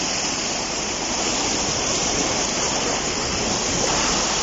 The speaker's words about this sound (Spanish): Atentos porque, fíjense, así bajaba, por ejemplo, el río Saja a su paso por Puente San Miguel en las últimas horas.